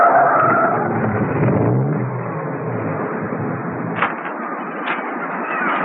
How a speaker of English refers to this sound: A short while after that, Mrs. Peel, at the wheel of her car, headed up the cliff road. She parked skillfully by the rocky path that led to the lighthouse.